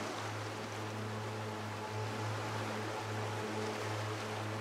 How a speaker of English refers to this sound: Feel the warm sun on your face and listen to the sound of the ocean.